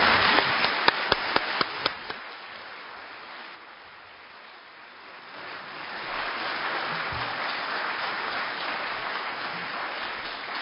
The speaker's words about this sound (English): Well, first of all, we give you a round of applause.